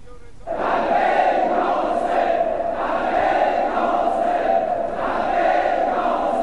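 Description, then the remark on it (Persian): A large crowd of the people of Kufa chants and roars the battle cry 'Labbayk ya Husayn' in unison, a dense, loud wall of voices that swells in repeated rhythmic surges after a brief quiet start. “میشنوی؟ قریب لبک یا حسین جماعت کوفه را میلرزاند.”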